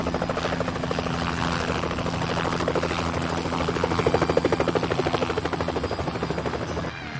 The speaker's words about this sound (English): Once they were safely out of the cave, a helicopter took the frightened pair to the rescue center.